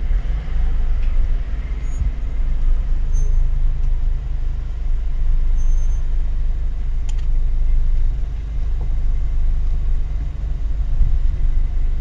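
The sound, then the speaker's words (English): A steady, heavy low engine rumble of safari vehicles idling and driving close by, four cars with a fifth coming up behind, continuous throughout with slight swells, with no voices and only faint outdoor background above it. “There's four cars at the moment. There's a fifth one coming up behind.”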